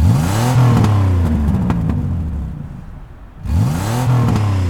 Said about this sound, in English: He seems to be testing an engine.